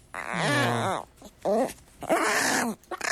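A dog whimpers in three fairly loud bursts, each a high, wavering whine that bends up and down in pitch, with short pauses between them.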